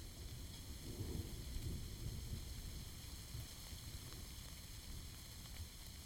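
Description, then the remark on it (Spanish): A heavy downpour that has just broken out while a campfire is being set up roars steadily throughout, a dense wash of rain noise with a deep low rumble underneath, like thunder or wind. No one speaks. “boludo, estamos armando un fogón y se largó con todo.”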